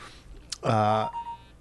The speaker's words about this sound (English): I'm getting a text. Are you? Is that what that sound means? Ladies and gentlemen, Rich has an iPhone. And when you have an iPhone, a little noise happens when you get a text.